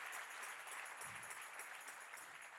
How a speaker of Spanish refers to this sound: Si ese es el aplauso, dáselo mejor al Señor.